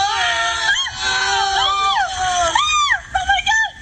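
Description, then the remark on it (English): Several people scream at once, loud, their high voices swooping up and down in overlapping wails over a few seconds, with a murmur of crowd noise beneath, as two men fall over and knock down two tall stacks of mattresses in a store commercial. “All right, so now that last moment there where all the screaming happening there, all of the, you know, the two guys fall over and knock the two twin towers of mattresses over.”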